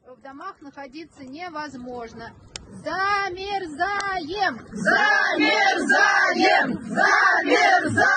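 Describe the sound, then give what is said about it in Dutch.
A group of women in the city of Elektrostal, Russia, chant the protest slogan "Zamerzajem" ("we are freezing") in unison, their loud rhythmic shouts repeating and swelling fuller and louder partway through, unaccompanied. “Ja, je hoort hier een groep vrouwen Zamerzajem roepen en dat betekent we bevriezen.”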